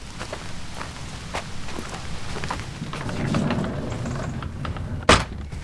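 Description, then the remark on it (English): Footsteps crunch and scuff steadily over a cobbled area in the old part of a mill, with a rumbling low background, then a sudden loud scrape near the end as a heavy sliding door is pushed open to come in. “We come in through the sliding door. We've gone over a cobbled area, which is the old part of the mill.”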